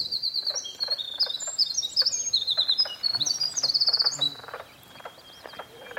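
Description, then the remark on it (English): A winter wren pours out a long, rapid, high-pitched song of trills and chirps, while a chorus of tapping, knocking mink frog calls continues steadily underneath; no one speaks. “So you can hear the winter wren, that long, beautiful bird song, and this strange kind of frog sound.”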